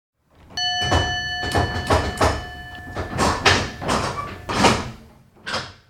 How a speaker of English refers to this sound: You're listening to the sounds of a restored 1914 Model 48 duplex drive Brougham Detroit electric car, now on permanent display at the Union College campus in Schenectady, New York.